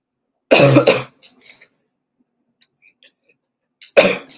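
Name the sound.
coughing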